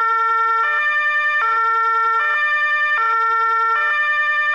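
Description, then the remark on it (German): A German two-tone emergency siren (Martinshorn), as used by police, fire brigade and ambulance vehicles, alternates steadily between a lower and higher pitch, about every three-quarters of a second, loud, with no voices. “Und was ist das für ein Horn? Das Martinshorn. Das ist die laute Sirene.”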